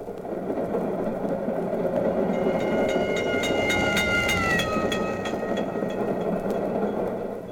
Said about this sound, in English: Or if you are on a moving train going past a clanging crossing bell, how the bell's pitch changes.